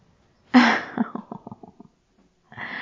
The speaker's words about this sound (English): That gasp drew more than a few glances, hon. Best try to keep yourself under control.